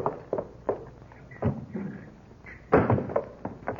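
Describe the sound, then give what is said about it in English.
A side door opens and shuts amid a few soft wooden thuds and steps, ending in a firmer knock of the door closing, fairly quiet, with no talking, as Hopalong Cassidy sneaks in through the side door. “And he comes sneaking in my side door.”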